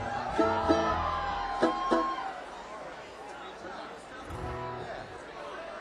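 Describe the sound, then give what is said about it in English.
A large outdoor festival crowd at a concert chatters and calls out, with scattered voices yelling and whooping over a steady hubbub of many people. “So thank you all for yelling and screaming and having fun with us tonight.”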